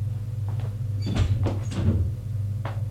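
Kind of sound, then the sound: household object, apartment door closing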